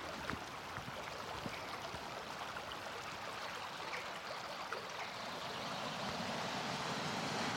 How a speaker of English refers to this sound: I'm walking now close to Peggy's pool. You can hear the waterfall. It's a lovely pool. You can swim in it in the summer when the water's a wee bit warmer. There's a lovely big flat rock above the waterfall that we like to sit on and have a picnic,